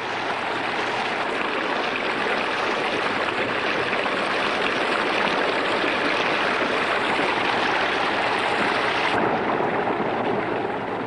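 flowing river water

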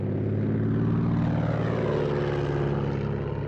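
propeller airplane flying

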